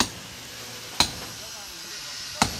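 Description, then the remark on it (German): Two sharp, separate hammer blows ring out about a second and a half apart, with a faint hissing background between them, as trainees renovate guest rooms at a hotel. “Baulärm, den sonst kein Urlauber gerne in seinem Hotel hört, gehört hier zum Konzept.”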